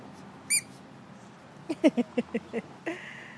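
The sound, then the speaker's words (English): A male dog squeaks his squeaky toy as a brief rain shower ends with the sun out: one shrill, high squeak, a pause, then a rapid run of about six short squeaks and a last one, with no voices. “Make your toy squeak.”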